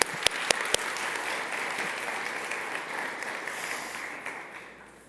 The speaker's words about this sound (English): Amen? Yeah, clap for that. Let's go.